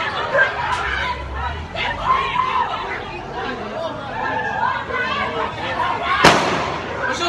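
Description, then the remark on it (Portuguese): A crowd chatters and shouts continuously, then a single sharp, loud gunshot from a female police officer's firearm cracks out near the end, cutting briefly above the babble of voices. “Na verdade, vamos mostrar mais uma vez o vídeo para a gente escutar o estampido da arma de fogo da policial feminina.”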